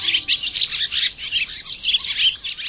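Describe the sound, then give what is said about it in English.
Barn swallows twitter in a continuous, busy stream of high, scratchy chirps and warbles, steady for the whole stretch, with no voices. “Barn swallows. North America's most abundant and widely distributed swallows, the ones with the deep blue back, the dark orange throat, and that elegant forked tail, are heading south by now.”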